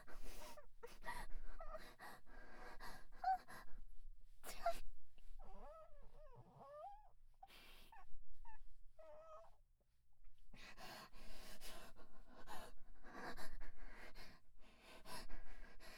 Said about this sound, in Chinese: 喘气声，真的是超级不爽的。